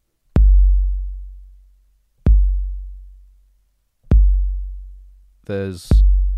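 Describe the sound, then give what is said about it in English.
A slow, deep heartbeat repeats four times, roughly two seconds apart, beating deep inside a Lego temple, each low boom fading gradually; a brief voiced sound cuts in just before the last beat. “There's a heartbeat somewhere deep inside the Lego temple, at the very base, at the very foundation, the inaccessible center of this colossus that you've wrought.”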